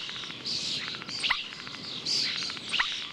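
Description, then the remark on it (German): A starling, a bird that can mimic the calls and melodies of other birds, sings a varied, busy phrase of rapid clicks, chattering and whistles ending in a sharp downward-sliding note, repeated twice with no talking. “Denn es gibt Vögel, die täuschend echt bestimmte Laute und Melodien anderer Vögel nachahmen können. Bekannt dafür sind zum Beispiel die Stare.”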